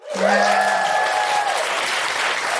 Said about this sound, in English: Can I just give a big round of applause to everybody today who came, who asked a question or came and told us about their amazing feminist thing?